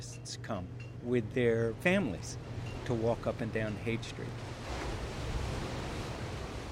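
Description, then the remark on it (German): Ocean surf washes steadily onto a sandy beach at Big Sur, three hours' drive south of San Francisco, a broad rushing roar under a man's voice at first, then swelling louder and more clearly on its own once the talking stops. “Ich blinzle in die gleißende Brandung an einem Sandstrand von Big Sur, 3 Autostunden südlich von San Francisco.”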